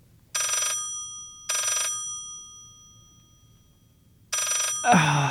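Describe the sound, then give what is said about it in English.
An old-style telephone bell rings three times in short, loud bursts with long pauses between them, and a voice starts speaking just as the last ring ends. “But when the phone rings at odd times, You know, what happens if you don't pick up the phone?”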